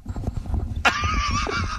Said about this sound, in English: What, did you just play fart noises for him? Yes!